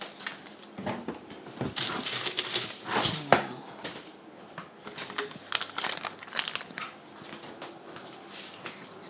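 Aluminum foil is peeled off and crinkled, producing a steady stream of bright, crackly rustles with sharper crunches scattered throughout, moderately loud and with no voices over it.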